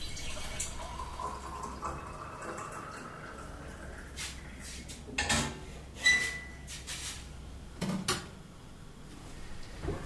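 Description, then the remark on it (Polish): Water runs from a tap into a kettle to make tea, a soft steady flow, while a few sharp clinks and knocks of kitchenware break in toward the end. No one speaks. “Zrobić ci kakao? Herbaty. Nastawisz wodę?”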